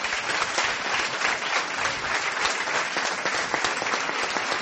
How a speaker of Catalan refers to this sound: Per tot això, un fort aplaudiment a la Junta, sisplau.